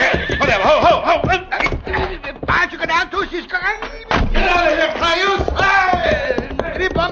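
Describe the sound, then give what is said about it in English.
Horses whinny and neigh repeatedly amid a loud, chaotic scuffle, mixed with shouting voices and sharp thumps and knocks, all continuous. “Yank them off their horses, boys!”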